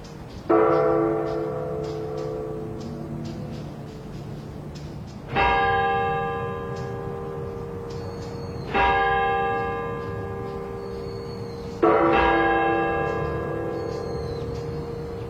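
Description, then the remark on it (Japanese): The large hanging bell of Myōgyō-ji, a Buddhist temple beside a church, is struck four times at uneven intervals, each deep stroke swelling and then humming on in a long, slowly fading resonance over faint outdoor background noise. “同時に聞こえてきたのは教会そばの妙行寺の釣り鐘です。”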